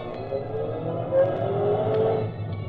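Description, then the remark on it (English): A taxi driving to the Hotel Savoy, its engine a steady low rumble with faint whining tones rising and falling slightly, continuous with no voices. “The feel of a taxi.”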